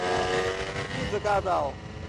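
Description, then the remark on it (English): A motorcycle cruising around Palace Square, a large Confederate flag tied to its back, drones with a steady, buzzing tone, then revs up in two quick rising surges near the end as the throttle is opened, before settling back to a rumbling idle. “If the racket of the motorcycle isn't enough, helicopters full of tourists buzz overhead.”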